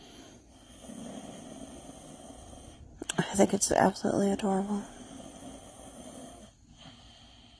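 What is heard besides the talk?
toddler snoring in sleep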